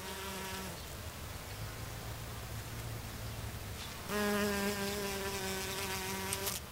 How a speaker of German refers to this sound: Summ, summ, summ, Bienchen summt herum.